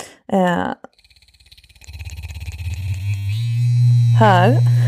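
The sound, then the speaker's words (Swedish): A women's sex-toy vibrator with a classic low, rumbling vibration is touched against the microphone; its deep buzz starts as faint pulsing, then swells into a loud, steady drone that runs to the end, with brief bits of voice before and near the finish. “Det här har vi en klassisk mullrande vibration.”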